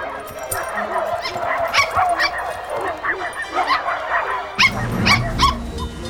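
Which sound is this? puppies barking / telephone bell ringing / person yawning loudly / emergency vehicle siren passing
puppies barking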